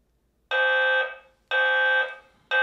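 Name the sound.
building fire alarm sounding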